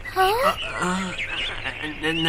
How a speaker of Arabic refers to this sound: هل سمعتم؟ إنه صوت الغراب يا أصدقائي.